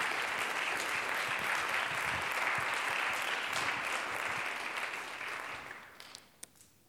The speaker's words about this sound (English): Does anybody believe what I'm talking about tonight? Why don't you give God a hand clap of praise if you believe what I'm saying?